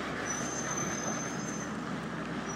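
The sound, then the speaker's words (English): A thin, high-pitched squeal from a twelve-wheeled lorry drags on for over a second above a steady, loud engine rumble and roar, then fades while the rumble continues. No one speaks. “So now the lorry's gone and all we can hear now is the digger, that's it.”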